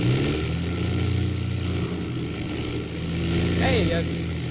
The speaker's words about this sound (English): And then I noticed the sound of the engines.